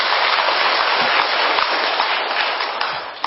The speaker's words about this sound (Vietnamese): Rồi cho tràng pháo tay coi.